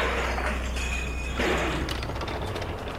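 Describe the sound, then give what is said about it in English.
A bag of spanners is dropped when someone trips. It lands with a sudden crash of metal tools hitting the ground, followed by a rattling clatter of clinks and knocks that trails off over the next second or so. “You've just thrown an entire bag of spanners in the works!”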